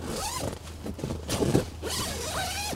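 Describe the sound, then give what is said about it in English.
A tent zipper is pulled closed in a few quick, raspy strokes at a campsite, with a soft low hum underneath and no talking. “I zip into my tent.”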